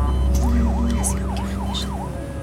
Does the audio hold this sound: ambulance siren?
yes